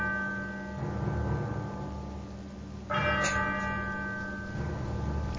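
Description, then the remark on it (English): A clock strikes thirteen with deep, ringing bell tones, each stroke blooming into a long humming resonance that overlaps the next. The chimes are loud, with no voices. “As the clock strikes 13, it's Friday, the 12th of December, year of our Lord, 2025.”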